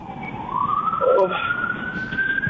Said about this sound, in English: Hey, wouldn't be New York without sirens. Okay. It's almost like we put them in ourselves.